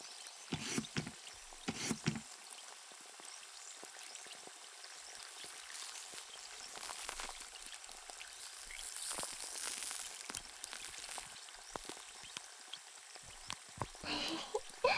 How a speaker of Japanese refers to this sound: もこもこしますね。指で軽く泡で撫でるように。